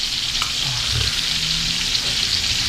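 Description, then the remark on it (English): Beef sizzles on a hot grill, a steady, dense crackling hiss that holds at an even loudness for a few seconds, with a few faint low bumps underneath and no voices. “Slap your beef on the thing?”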